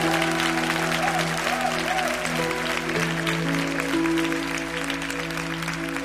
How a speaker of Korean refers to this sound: 할렐루야! 우리 하나님께 다시 한번 큰 영광의 박수를 드렸으면 좋겠습니다.